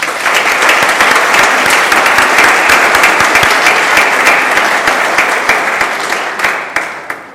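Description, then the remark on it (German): Sustained applause from a large audience, dense rapid clapping at full strength for about six seconds before thinning out and fading at the end, with no talking. The audience is applauding to thank the people who organized the event. “Herzlichen Dank und einen Applaus für Sie.”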